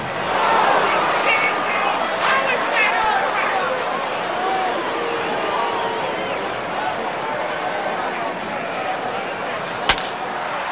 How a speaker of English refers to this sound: which takes us to a baseball game, and someone in the crowd reacting to a call.